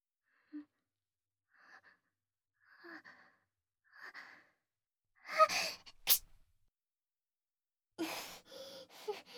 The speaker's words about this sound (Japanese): すみません、くしゃみ出ちゃいました。